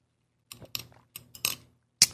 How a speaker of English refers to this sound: Let me take a sip of my iced coffee.